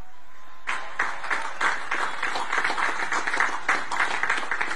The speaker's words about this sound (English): Well, actually, he gets applause, but it's delayed. It's claps that they're clearly kind of confused. Just take a close listen.